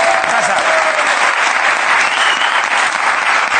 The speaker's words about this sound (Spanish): Por lo pronto en la calle está Jorge Ponce, ¿no? Sí. Un aplauso para Jorge Ponce en la calle, un día más.